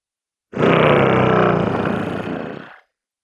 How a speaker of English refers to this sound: The Devrizium rumbles a mechanical growl as it straightens up.